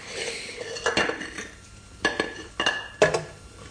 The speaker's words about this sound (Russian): Вытирай тарелки, если тебе мытье не по вкусу. Давай.